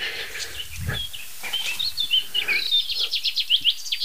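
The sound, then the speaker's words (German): A pipit sings a rapid, twittering finch-like song of short, high chirps and trills, clear, with a low thump early on and no talking. “Es klingt auf jeden Fall finkig. Die Piper klingt finkig.”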